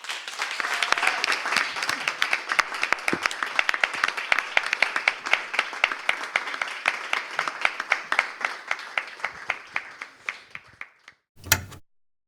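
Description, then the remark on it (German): An audience applauds steadily after a reading, the clapping continuing until the last sheet is picked up; dense clapping gradually thins into scattered individual claps before fading out, ending with a brief louder burst. “Ja, hier wird noch geklatscht, bis das letzte Blatt aufgehoben ist.”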